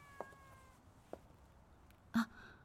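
A cat named Kamisama, formerly a believer's pet taken in a year ago after its owner died, lets out one short, fairly clear meow near the end, after a couple of faint clicks in an otherwise quiet setting. No one speaks.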